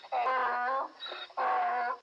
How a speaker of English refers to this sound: It's a mini donkey. And he looks just like that icon.